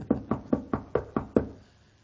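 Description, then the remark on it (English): Seven firm knocks on a wooden door, representing Peter knocking at the door, in a steady, slightly uneven rhythm, clear, with no voices, then the sound fades into quiet. “Meanwhile, Peter's out there knocking.”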